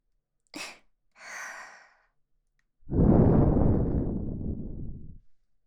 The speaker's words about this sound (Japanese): こんな風に耳に吐息をかけられて、もしかしたらって、この耳の奥の頭の中で想像してしまっているのかしら？